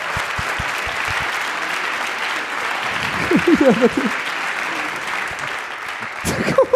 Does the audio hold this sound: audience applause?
yes